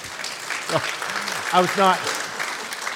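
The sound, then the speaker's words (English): Steady audience applause on Mother's Day for the speaker's daughter's graduation fills all three seconds, a dense crackle of many hands clapping, with a few brief voices rising over it partway through. “I was not like trying to single my daughter out for applause.”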